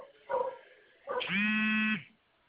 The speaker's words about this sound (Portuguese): Pera aí, que tá ligando, não desliga a nossa ligação, não, tô ligando no WhatsApp. Tá aparecendo aí eu te ligando? Oi? Tá aparecendo aí eu te ligando? Olha lá, seu celular tá vibrando.